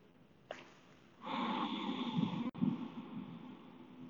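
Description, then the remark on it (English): Forceful, noisy pranic breathing exercise: a short sharp intake, then a long, loud rushing exhale-and-inhale sequence with a brief catch partway through, no talking. “So I begin to engage this pranic breathing.”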